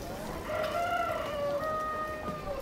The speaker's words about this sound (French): Chant des coqs